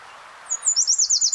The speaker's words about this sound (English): I'm not sure what kind of warbler this is, but I'm gonna record it.